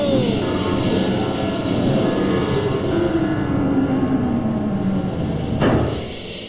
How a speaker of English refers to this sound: We're going to turn the ship upside down to land on our rockets. Here we go.